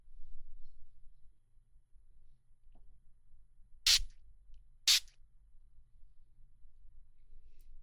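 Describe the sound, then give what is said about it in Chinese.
Two short hissing bursts from a pump spray of numbing spray that lowers the sensitivity of the glans, about a second apart, each a quick puff over a quiet background with a faint low hum. “找到了，来，给您喷一点这个啊。”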